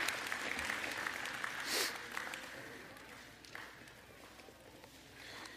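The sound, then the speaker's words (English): A crowd claps steadily for children as they leave through the back door, a dense patter of applause that stays fairly even and fades slightly toward the end, with no voices standing out. “All right, with big old round of applause, would y'all clap for the kids as they head out the back door.”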